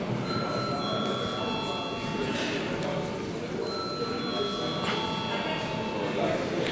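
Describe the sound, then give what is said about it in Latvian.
A parliament chamber bell rings steadily for several seconds before a vote on granting leave to a deputy, a sustained electric tone over the background murmur and rustle of a large hall. “Lūdzu zvanu.”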